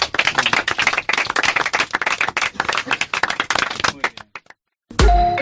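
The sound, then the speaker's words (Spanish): A crowd in Ribadeo applauds for everyone, with dense, steady clapping for about four seconds, then it thins to a few scattered claps and stops before a short, unrelated tone begins. “Pues chicos, muchísimas gracias por estar aquí con nosotros, que sigáis disfrutando de aquí de vuestra estancia, y nada, un aplauso para todos.”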